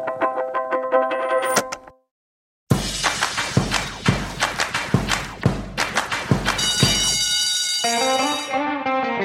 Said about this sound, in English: That bell can only mean one thing. It's time for Planet Money Summer School.